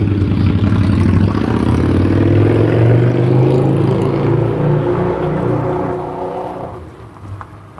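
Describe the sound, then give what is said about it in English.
A very large motorcycle roars past, its deep, throaty engine rumble swelling loudly before gradually fading as it moves away. No one speaks. “Very large motorcycle.”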